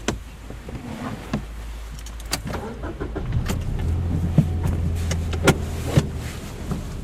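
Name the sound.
car driving off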